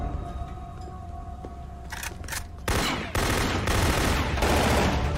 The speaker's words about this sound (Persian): تیراندازی داری روی عرشه